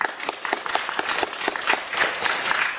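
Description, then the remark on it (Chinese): An audience breaks into applause for the non-Christian guests present, a dense, steady patter of many hands clapping at once, fairly loud and sustained throughout with no voices. “好，我们给今天的福音朋友一个掌声好不好？”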